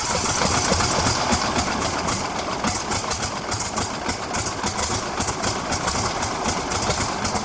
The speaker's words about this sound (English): The Stearman was a great training aircraft. They're noisy, obviously, those big radial engines. They run at low RPMs. They're powerful, but they are very noisy.